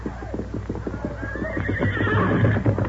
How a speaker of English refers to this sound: Doc Stevens, call your horse. Here's Silver. Come, scout.